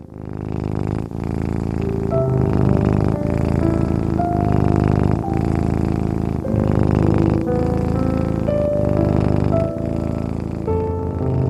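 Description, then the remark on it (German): A cat purrs steadily, a continuous low rumble that swells and eases in slow, regular cycles with each breath, with no voices over it. “Gemütlich liegst du in deinem Bett und Luna, die kleine Zauberkatze, liegt warm auf deinem Bauch. Sie schnurrt.”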